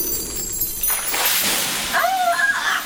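A loud rushing water jet bursts in after a brief pause, a hissing, spraying splash that keeps going for a couple of seconds, with faint tonal whistling threaded through near the end.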